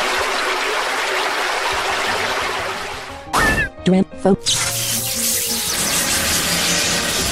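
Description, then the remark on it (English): A loud, rushing water attack effect from a turn-based battle video game, the water move Drench: a steady gush of spraying water, broken midway by a few sharp splashing hits, with a brief voice speaking near the start. “Mini Tornado. Drench. Water.”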